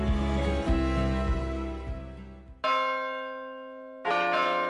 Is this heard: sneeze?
no